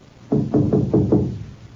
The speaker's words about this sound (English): He was still puzzling over this annoying detail when he came upon the caretaker's cottage. After just a moment of hesitation, Harry knocked.